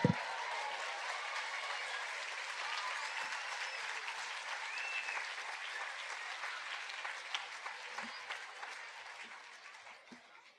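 Sustained applause from a large audience fills the whole stretch, a dense steady wash of many hands clapping at once, fairly loud and gradually tapering slightly toward the end, with no talking over it.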